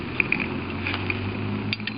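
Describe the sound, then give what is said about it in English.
A grappling hook mechanism being tested ratchets with a series of sharp, irregular metallic clicks over a low steady hum, fairly quiet, with no one speaking. “So now we're testing the grappling hook.”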